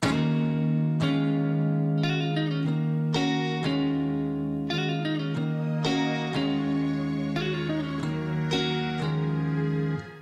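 A song's instrumental intro plays loud and steady: effects-laden electric guitar chords ring out in a regular pattern, roughly one strum per second, with no vocals yet.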